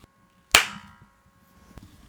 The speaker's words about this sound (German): tief einatmest und dann aufeinander klatscht die Hände.